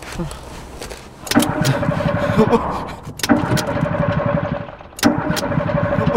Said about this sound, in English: What is going on? Is the engine dead? Why did the engine have to die? The engine did nothing wrong.